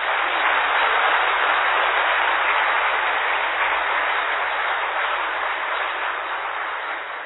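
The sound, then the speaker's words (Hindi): An audience claps steadily for several seconds, a dense, continuous patter of many hands at a fairly loud, even level that eases off slightly toward the end. No one speaks over it. “ताली बजाना तो आता है ना, कि वो भी भूल गए?”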